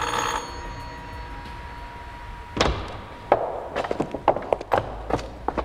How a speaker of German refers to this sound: Ohne zu zögern drückte der erste Detektiv auf die Klingel.